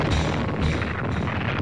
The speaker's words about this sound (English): Every war has its trademark sound. For World War I, it was boots marching. World War II, German buzz bombs.